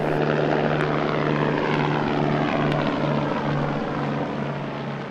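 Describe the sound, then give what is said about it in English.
A Vertical Aerospace Valo prototype electric vertical takeoff and landing aircraft flies by, its rotors producing a loud, steady whirring hum with a low tonal drone that holds for the whole stretch, with no voices. “As the name suggests, and a promotional video shows, it has the ability to take off vertically like a helicopter, but without the noise and pollution.”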